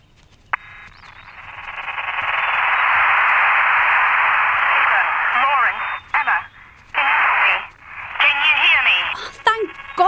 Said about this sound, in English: You sound like you're on a really bad phone line.